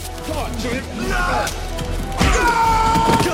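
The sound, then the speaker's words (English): A heavy crash as Mean Machine smashes a stone column in two while fighting Dredd, a loud crunching impact with rumbling debris, set against a dense, noisy background with grunting voices. “Mean smashes a column in two.”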